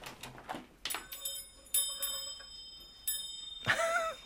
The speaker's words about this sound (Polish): Zawsze mi się marzyło, żeby mieć taki dzwoneczek, jak się wchodzi do pracowni rzemieślnika, do szewca, że tak przy drzwiach sobie jest i właśnie wreszcie, mam nadzieję, że go słychać.